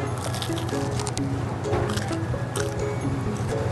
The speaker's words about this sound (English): But it's actually the square slice, the Sicilian slice, that is completely rocking my world. And you just listen to what it sounds like when you bite into this pizza.